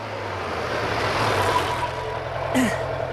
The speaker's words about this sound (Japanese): あー、ダメ、エンジン切らないで。僕を乗せて逃げてください。